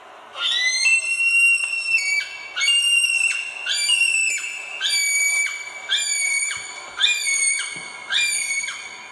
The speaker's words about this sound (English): And their call is designed, I think, to travel through forest. It's a high screaming call. So here's a male kiwi.